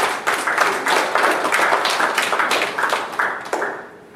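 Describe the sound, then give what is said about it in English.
A church audience applauds during a sermon with steady, dense clapping that holds for a few seconds, then thins and fades away toward the end, with no voices over it. “Give a little hand of applause.”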